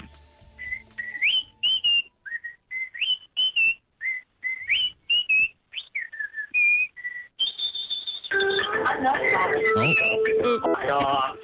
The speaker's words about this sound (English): He was trying to chirp you about whistling and got a call on his phone in the middle of it.